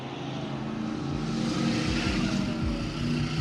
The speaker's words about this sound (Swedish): Längs den smala körbanan viner glamorösa bilmärken som Jaguar och Ferrari förbi läktarna i över 200 km i timmen.